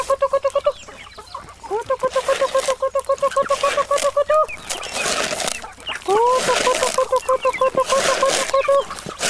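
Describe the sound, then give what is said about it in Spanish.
Farm poultry calling, a steady run of rapid clucks and harmonic squawks from chickens and ducks on a farm in Colombia, briefly pausing midway before the chatter resumes, with a faint voice underneath. “Nuestro trabajo consiste en cortar caña y sembrar alimentos, maíz, yuca, frijol y pastorear vacas, patos, gallinas.”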